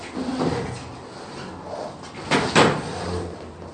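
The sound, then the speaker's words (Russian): A chair is shifted aside with a short scrape, then two close knocks a moment later, over a low room hum with no talking. “Ну, уберите один стул вот этот.”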